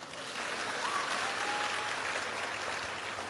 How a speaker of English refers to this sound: This is the clap you're giving them.